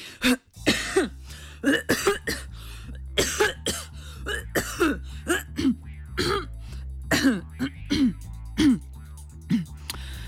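A prolonged coughing fit, with harsh coughs and throat clearing coming in quick, uneven bursts for about ten seconds, fairly loud over a low, steady background tone.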